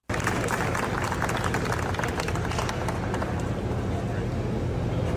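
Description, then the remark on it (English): People surrounding Josh Shapiro and Zelensky at a munitions signing session clap for them steadily for several seconds, a dense, even patter of hand claps blended with crowd murmur and a low background rumble. “For those listening on radio, you heard that was, you know, the people surrounding Shapiro and Zelensky clapping for them.”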